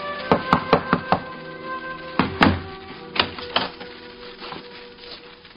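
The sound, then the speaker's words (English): Knocking on a wooden door during an evening meal: a quick run of about five sharp raps, a short pause, then a heavier thump followed by several slower, uneven knocks. Fairly loud, with no voices. “And how the three of them reached for their flintlocks when they heard that knock on the door.”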